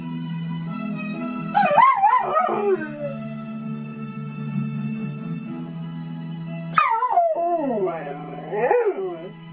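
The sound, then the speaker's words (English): Zul the Terror Dog, left home alone with the radio on, howls along to a radio program's theme song in long, wavering, rising-and-falling cries over a steady musical tone, with two main bursts of howling separated by a pause, prominent. “His owners leave him at home with the radio on, and he's developed a fondness for the theme song of a certain radio program.”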